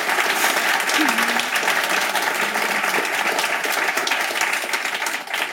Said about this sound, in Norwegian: Vi gir dere en applaus.